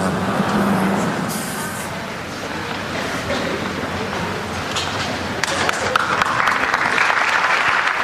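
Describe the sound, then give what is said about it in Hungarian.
A large crowd applauds steadily for several seconds to thank the Pope for his catechesis, a dense, continuous wash of clapping that swells slightly toward the end, with a faint murmur of voices mixed in. “Kedves hallgatók, ahogyan szokás, Bihar tapssal köszönik meg a Szent Atyának a mai katekézisét.”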